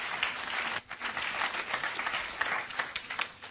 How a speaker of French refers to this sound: I think this deserves some applause. Je crois qu'on a besoin d'applaudir.